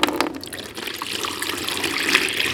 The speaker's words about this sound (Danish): Skibet har et flot mønster og en kaptajn, der hedder Kaptajn Overhyler. Han tisser konstant i en spand.